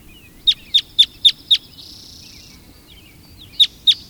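red crossbill calls

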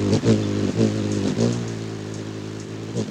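heavy rain

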